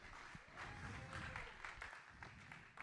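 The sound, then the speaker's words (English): A crowd applauding the creative team steadily, a dense wash of many hands clapping at once, with some faint voices mixed into the noise throughout. “Hey, why don't we give the creative team a huge round of applause?”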